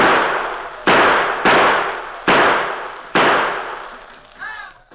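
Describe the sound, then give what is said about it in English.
A series of five loud, sharp gunshots fired by Tonto through a window near the bed at a steady, roughly regular pace, each blast trailing off in a long echoing decay, followed by a brief faint whistling tone at the end. “In the bedroom, the Lone Ranger lay awake and watching Tonto, who maintained a steady gunfire through a window near the bed.”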